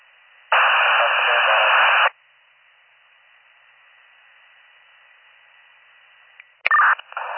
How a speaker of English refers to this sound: static.